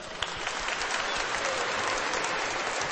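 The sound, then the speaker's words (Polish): An audience claps steadily for a church schola (choir), a dense wash of many hands applauding at an even level for the whole stretch, with no individual voices standing out. “A że za brawa trzeba podziękować, to na dobry początek dla nas coś zaśpiewajcie, a my postaramy się w ten piękny śpiew również i włączyć z naszymi sercami.”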